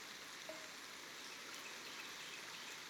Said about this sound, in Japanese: 雨が上がるまでの少しの間でいいですから